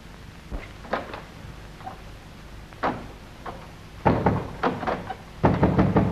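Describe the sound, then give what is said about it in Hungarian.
Irregular knocks on a locked door, a few scattered thumps that build into heavier, faster pounding bursts toward the end, loud, with no talking. “Azonnal tessék kinyitni az ajtót, különben erőszakkal nyitatom fel.”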